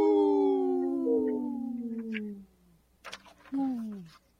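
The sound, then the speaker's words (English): A long, drawn-out wolf howl slides slowly downward in pitch, followed after a brief pause by a shorter second howl that also falls away, both loud, in a spot for Howling for Wolves on Native Roots Radio. “This portion of the show is supported by Howling for Wolves, protecting wolves for future generations. Howl!”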